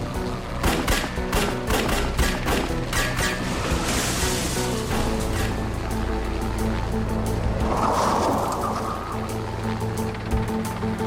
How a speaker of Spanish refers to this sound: Los agentes y los oficiales abrieron fuego mientras lo perseguían.